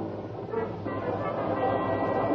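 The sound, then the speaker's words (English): A train's steady, low rumble and mechanical clatter, fairly loud, swelling slightly as it begins to pull away from the station in Fulton at night. No voices. “And 50 minutes later, when I tore into Fulton and followed the street markers to the station, a long, low, welcome sound in the night told me I was on time. The train was just getting underway again.”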